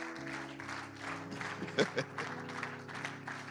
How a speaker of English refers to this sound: Hallelujah. Clap your hand. Come on, smile.